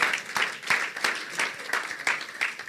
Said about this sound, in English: Clap for the Lord Jesus.